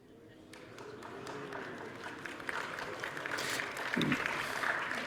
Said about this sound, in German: Ihr kennt das Experiment noch gar nicht, warum klatscht ihr jetzt schon?